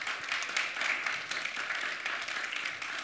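A steady wash of applause from a crowd, many hands clapping together in a dense, continuous patter that holds at an even level throughout, with no voices standing out.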